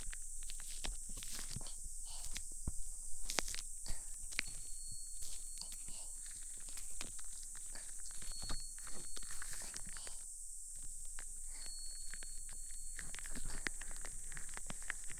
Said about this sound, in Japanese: 泡を出して手のひらに出した泡を耳に、失礼します。